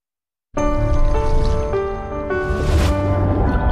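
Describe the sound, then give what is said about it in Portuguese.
After a brief silence, water starts running steadily from a tap, a continuous splashing rush that grows slightly brighter partway through, with a faint tonal hum beneath it. “Feche a torneira.”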